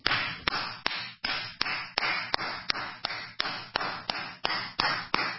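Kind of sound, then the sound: human body sound, one person clapping hands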